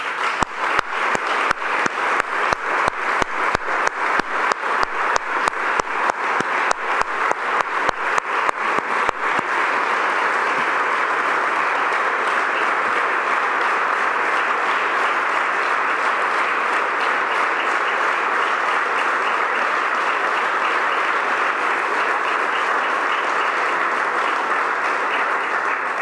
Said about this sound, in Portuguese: Obrigada, Eunice, tenho uma enorme saudade tua. Grandes palmas para ela.